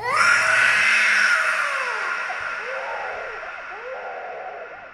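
A person screams loudly and continuously, the cry bursting out at full strength and then wavering in rising and falling wails that slowly fade over several seconds, with no talking.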